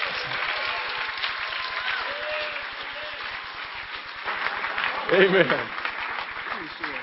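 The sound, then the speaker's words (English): An audience gives God a hand clap, clapping steadily in a dense wash of many hands applauding at an even level, with scattered voices and a brief louder vocal burst near the end. “Give God a hand clap, everybody.”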